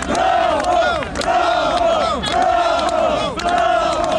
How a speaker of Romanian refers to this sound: La plecarea lui Igor Dodon din clădirea președinției, în stradă s-au auzit și câteva huiduieri.